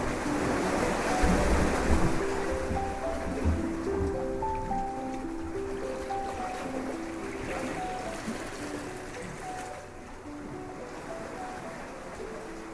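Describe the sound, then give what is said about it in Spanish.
Steady ocean surf washes and breaks, a continuous rushing roar of waves with wind gusting over it, and no voices throughout. “Lo pone sobre la superficie del agua y ella ve cómo las olas, poco a poco, se lo llevan mar adentro.”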